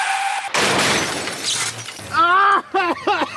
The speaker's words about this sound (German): 19.15 Uhr. Auf nasser Fahrbahn kommt ein PKW kurz vor Heinersdorf von der Straße ab und überschlägt sich.